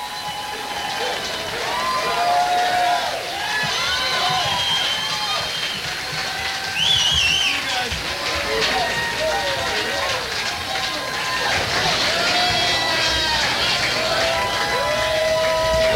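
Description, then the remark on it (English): A concert crowd at the Roxy cheers for an encore, broadcast live on 95.5 KLOS radio: a steady, loud roar of many voices with scattered shouts and a shrill whistle, sustained without a break for the whole stretch. “Well, the crowd isn't leaving.”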